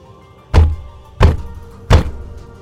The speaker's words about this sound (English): The loud sound of fists pounding on the bedroom door rang out.